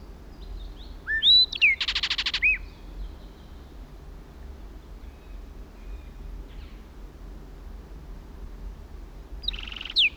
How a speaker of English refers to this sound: At last, a flight song. Now in another pine. 60 feet from original position. Kelp gulls in the background. Southern lapwings. Another blackbird joined it.